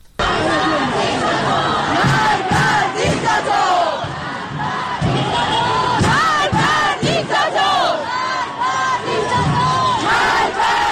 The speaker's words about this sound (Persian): در تهران، تجمع‌های اعتراضی در شهرک غرب، شهرک سپهر، قلهک، گیشا، بلوار فردوس، سعادت آباد، نارمک و خیابان‌های ابازر، شریعتی و ولیعصر برگزار شد.